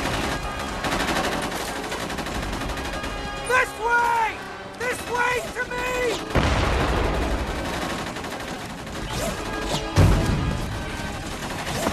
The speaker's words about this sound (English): Now, that explosion didn't hit him directly. He sort of threw himself up into the air about a second and a half after it hit. There isn't even a sort of reasonable shockwave to him.